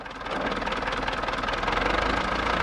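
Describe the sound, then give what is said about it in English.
A tractor's diesel engine idles with a steady, rumbling chug, running continuously after starting up at the beginning, with no voices present, as a farmer repairs the tractor on a ridge overlooking a mass gravesite. “Just up the road, another farmer who is busy repairing his tractor lives on a ridge that overlooks the mass gravesite.”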